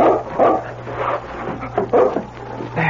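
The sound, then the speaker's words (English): A dog named King barks and yips in several short, uneven bursts over a steady low hum at the door of Jim Taylor's roadhouse, with a whimpering edge to some of the calls. No one speaks. “If only his eyes got better in time, he could find out at the roadhouse if this were the dog he thought it was.”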